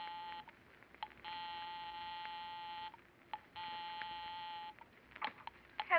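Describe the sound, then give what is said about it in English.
A house telephone being dialed to ring 9B: a few quick clicks, then two long, steady buzzing ring tones with a pause between, heard clear with no one talking. “I'll give 9B a ring first on the house phone.”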